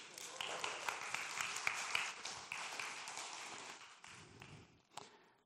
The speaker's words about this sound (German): Applaus für die Technik hier.